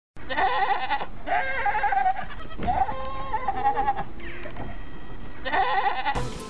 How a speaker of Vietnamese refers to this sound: Chúng tôi ngủ trên giàn gác chứa cỏ khô và bên dưới là cái chuồng của một đàn dê.